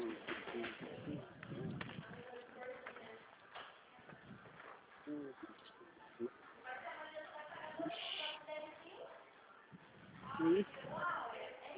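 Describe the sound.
Chickens and chicks cluck and peep in a busy, continuous jumble of calls, with a louder squawk near the end and muffled voices mixed in.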